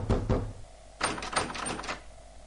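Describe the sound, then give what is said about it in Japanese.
Heavy, violent pounding on an apartment front door: two loud thuds, a brief pause, then a rapid flurry of hard banging blows, forceful, with no voices. “激しくドアを叩き、ノブをひねる音。”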